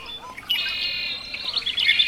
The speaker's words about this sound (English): I've been hearing the house wren over here really with a very bubbly, uplifting song. It's very bubbly, bubbly, and it goes eek at the end. That's about 50 notes in 1 second, that house wren.